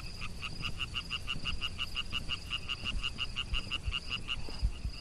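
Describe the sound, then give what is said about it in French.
A frog calls during its breeding season in a fast, steady train of short pulsed notes, around four per second, running the whole time over a low rumbling background with no voices, while amphibians are being counted in a population survey. “nous allons à la rencontre des amphibiens pendant leur période de reproduction et nous effectuons un comptage”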